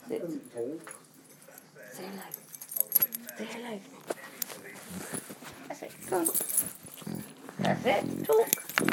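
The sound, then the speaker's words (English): A female dog, Pocky Dog, makes short, pitched vocal sounds, whines and grumbles in bursts while wagging her tail, while metallic jangling like keys or collar tags rattles throughout and a person talks at times. “Pocky Dog, I'm going to say hello to all of you.”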